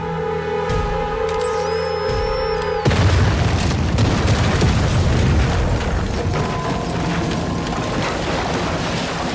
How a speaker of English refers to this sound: And I mean, we start literally, this episode starts with a bang, like an explosion in this woman's boat. Like, that was wild. I didn't expect that.